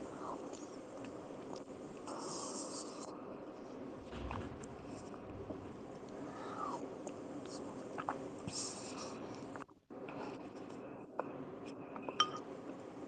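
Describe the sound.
A plate being cleaned, with scattered light clinks of dishes and scraping, rubbing sounds over a steady, busy background hiss, and a faint murmur of voices at times.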